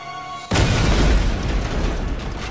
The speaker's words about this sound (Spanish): La explosión fue la más espantosa hasta entonces.